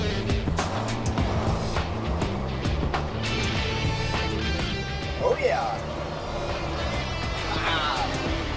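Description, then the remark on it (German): The engine of a heavy 20-ton, 320-horsepower rescue truck rumbles steadily, a deep, constant drone that fills the whole clip, with a brief voice heard faintly over it. “Das Ding wiegt 20 Tonnen und hat 320 PS.”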